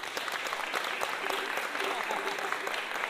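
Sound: audience clapping hands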